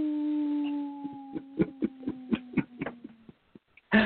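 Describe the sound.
A person imitates a howl, holding one long moaning note that sags slightly in pitch over about three seconds while a rhythmic series of sharp percussive hits sounds over it, ending with a short loud burst.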